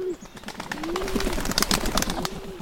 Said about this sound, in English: So next time you hear this hooting, look up, and you may see a small flock of band-tailed pigeons in the trees.